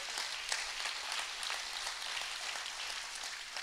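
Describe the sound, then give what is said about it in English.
A church audience claps together for the Lord at a morning service, in dense, sustained applause, many hands overlapping into a steady wash of sound with no voices on top, fairly loud and even throughout. “If you're going to give the Lord a big clap, give the Lord a big clap this morning.”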